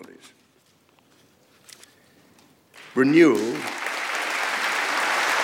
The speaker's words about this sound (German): Applaus dafür auch vom Vizepräsidenten.